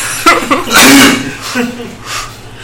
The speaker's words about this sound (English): It hurts to laugh. So anyway. Causes fits of coughing.